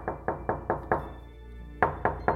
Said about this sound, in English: Again, someone was knocking at my door.